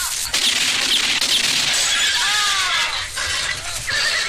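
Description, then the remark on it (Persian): A bullet shatters a carriage window: glass breaks with a bright, crackling burst, followed by tinkling shards and a horse's whinny amid a busy, noisy outdoor scene, fairly loud. “تیر شیشه پنجره کالسکه را می شکند”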